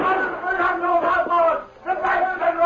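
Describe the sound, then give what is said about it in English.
Several voices shout and yell together in a loud, rough clamor, along with gunshots, by the general store in Hayville early one morning, with a brief dip in the middle before the shouting surges again. “Suddenly, he was startled by shouts and gunshots.”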